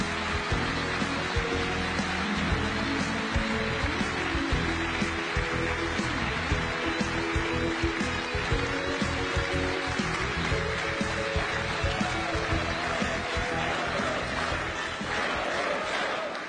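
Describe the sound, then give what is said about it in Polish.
A crowd applauds and cheers loudly and steadily for about sixteen seconds as Jarosław Kaczyński is invited onto the stage, a dense wash of clapping blended with sustained, tonal music underneath. “Proszę o ogromne brawo.”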